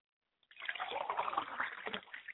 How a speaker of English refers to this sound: I like to pour a glass of water for my father, and I say Ashe. I pour a glass of water for my mother, and I say, Ashe.